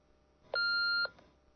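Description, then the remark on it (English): A single steady electronic beep, the message tone of Relock's answering machine, lasting about half a second with clean high pitch, loud, then silence. “Please leave a message and your phone number after the tone, and we will call you back.”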